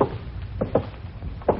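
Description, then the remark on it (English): A door being opened to let a woman in: a few soft, muffled wooden clunks and thumps spaced unevenly over low background noise, with no one speaking. “Open the door and let her in.”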